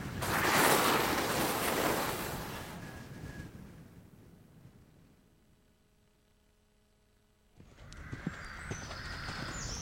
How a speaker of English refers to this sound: This girl is horse riding with her mum. They're on holiday in the beautiful green hills of Northern Ireland. It's a cold morning, but it's sunny.